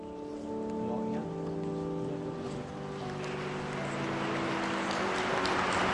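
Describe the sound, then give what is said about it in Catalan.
Applause from a large gathering of concelebrating clergy and people in St Peter's Square, Vatican, at the beatification of Pope Paul VI, as the bishop of Brescia embraces Pope Francis. It swells into a dense, steady patter over low sustained tonal notes that fade as the clapping grows. “Ara mateix el bisbe de Brescia ha fet una abraçada al pontífex, a Francesc, entre els aplaudiments que podeu sentir vosaltres també dels concelebrants i del poble present ara mateix a la plaça de Sant Pere del Vaticà.”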